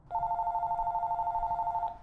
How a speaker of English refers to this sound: I have to get that. A landline? That's a bit old-fashioned for an inventor, isn't it?